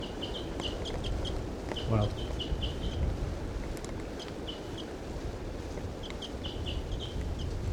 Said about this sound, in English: I see her sitting there now. That's her. Stop. This wild female's starting to call 2745. That's her, the wild bird.